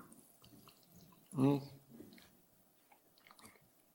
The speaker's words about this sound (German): Und jetzt kommt Wasser, das ist wunderbar, weil irgendwie habe ich gerade so eine trockene Kehle, danke.